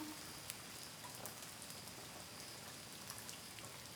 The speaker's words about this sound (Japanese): 雨降ってきちゃったか。今日は晴れるって言ってたのにな。